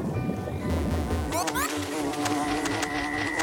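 Wasps buzz steadily, a continuous droning hum with a brief rising sweep partway through, over a busy background of other noise.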